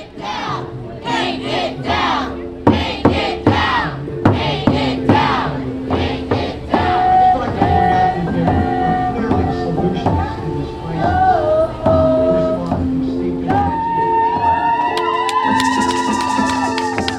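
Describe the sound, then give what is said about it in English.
A crowd at a San Francisco Unified School District school board meeting on June 25th erupts in loud, sustained cheering and shouting after the board unanimously agreed to paint over the Victor Arnautoff murals at George Washington High School. Many voices overlap in a steady roar with scattered higher-pitched yells and whoops throughout. “That cheer happened after the school board unanimously agreed to paint over the murals.”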